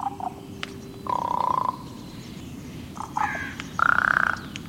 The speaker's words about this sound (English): Ravens, their voice is unmistakable, held a prominent place in the cultures of northern peoples from the Vikings to the tribes of the northwest coast.